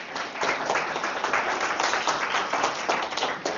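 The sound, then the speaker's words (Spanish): A crowd applauds at a book presentation, many hands clapping in a dense, even roar of claps that holds at a fairly loud level for a few seconds. “Aplausos, por favor.”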